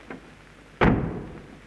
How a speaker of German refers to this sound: Muckfass, Kasperl, hinein! Und die Tür hinter dir zugeschlagen.